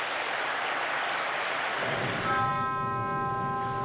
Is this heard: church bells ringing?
yes